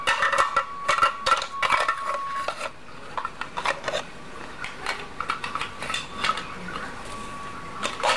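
Plates and cutlery clatter and scrape, with repeated light knocks and brief ringing tones, busy at first, then pausing before more sporadic clinks and rubbing. No one speaks.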